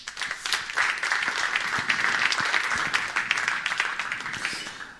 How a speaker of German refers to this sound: mit einem kleinen Applaus.